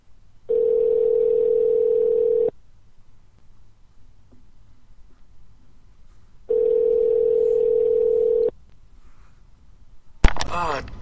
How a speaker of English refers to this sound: Ring, ring, ring. Pick it up. Come on, motherfucker. Pick up your phone, goddammit.